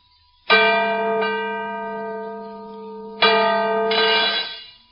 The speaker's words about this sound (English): Good heavens. The bell is cracked. Aye, that it has. But this is unbelievable. It was in perfect condition.